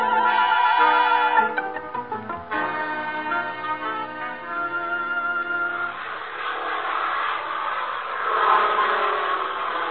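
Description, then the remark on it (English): The propeller engine of Plane 2 of the Fighting 8 squadron drones with steady harmonic tones and brief stutters, then swells into a broad, rushing roar as it builds power and takes off, heading home, loud throughout with no voices. “Fighting 8 from Drake, Plane 2. Take off okay, heading home.”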